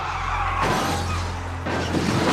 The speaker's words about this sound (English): The oncoming minivan gets knocked on its roof for 50 feet.